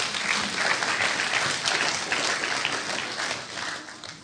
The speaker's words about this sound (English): Thank you, guys. Give them a clap. They were good.